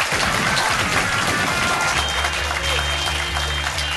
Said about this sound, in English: Ladies and gentlemen, massive round of applause for Tessa and Stevie.